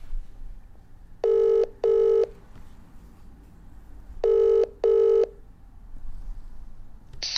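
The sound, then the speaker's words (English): A phone line rings out with two double-pulse ringback tones separated by a pause, steady and fairly loud over faint background hiss, with no talking. “Let's get our man DT on the phone.”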